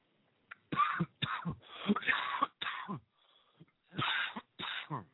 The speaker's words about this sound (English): Wow, I don't know where that came from. Oh my goodness, I need to clear my throat.